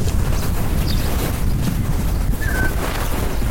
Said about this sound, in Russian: Ой, какой здесь ветер.